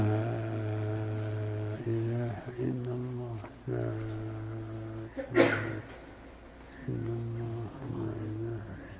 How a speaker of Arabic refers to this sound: رحمك الله.